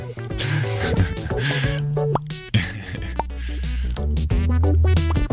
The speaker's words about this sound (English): I bought a bubble pop, bubble synth. Nice. Yeah, the soft pop. It sounds like bubbles.